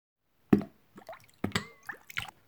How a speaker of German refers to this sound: Und wieder machte es Platsch. Piet, der kleine Pinguin, landete im Wasser zwischen den Fischen.